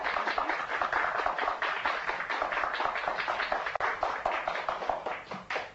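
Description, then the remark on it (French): An audience claps steadily for two game contestants for several seconds, a dense, continuous patter of many hands with no voices over it, staying fairly even in loudness before thinning slightly at the end. “Il faut les applaudir.”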